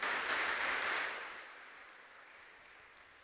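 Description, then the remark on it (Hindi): An audience claps for themselves in a dense, crackling burst of applause that holds strong for about a second, then thins out and fades to a softer patter. “अब प्रभु जी की तो गतमत न्यारी है, प्रभु जी हमारी ताली भी सुन रहे हैं और हमें भी देख रहे हैं।”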